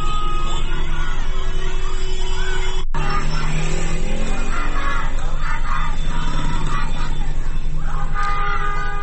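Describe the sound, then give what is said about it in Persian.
A crowd of students from a school chants and yells slogans in the morning outside the school grounds, addressing honking cars in the street with "don't honk, shout", loud and continuous, with voices overlapping in a rough rhythm and a brief cut about three seconds in. “امروز صبح هم عده‌ای از دانش آموزان یکی از مدارس بیرون از محوطه مدارس خطاب به ماشین‌هایی که بوق می‌زدن در خیابان، که این هم به امری عادی در روزهای گذشته تبدیل شده، می‌گفتند، شعار می‌دادن که بوق نزن، فریاد بزن.”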